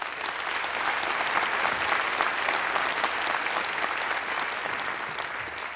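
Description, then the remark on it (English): A crowd applauds the idea of free quality education for every Sierra Leonean child, clapping steadily for several seconds, a dense, even wash of many hands clapping at a constant loud level with no voices standing out. “Great idea you've clapped for, right?”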